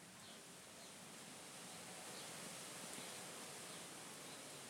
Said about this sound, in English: It sounds all right, but we've got all these trees around, you see. You can hear the wind blowing in them. So it's windy.